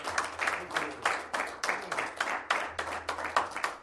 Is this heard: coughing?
no